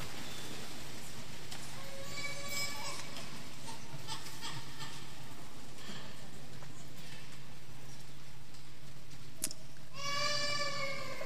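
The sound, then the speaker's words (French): A baby girl about to be baptized cries in short, wavering wails during a baptism service, one burst early on and another near the end, over a steady background hum. “Oh, mais alors des pleurs alors qu'elle va être baptisée, ça c'est pas bien.”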